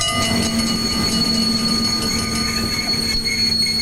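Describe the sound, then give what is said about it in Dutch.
An Intercity train approaching Assen station rumbles steadily along the rails, with a low droning hum and a thin, sustained metallic whine running over a constant bed of rolling noise. No one speaks. “Beste reizigers, de Intercity nadert het station Assen.”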